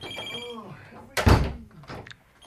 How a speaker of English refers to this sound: Come on, let him answer the phone.